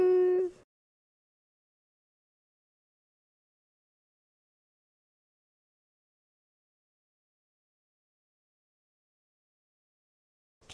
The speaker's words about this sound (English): Cougar.